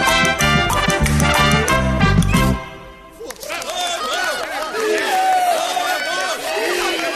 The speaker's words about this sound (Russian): Все ж хотелось бы услышать бурные аплодисменты.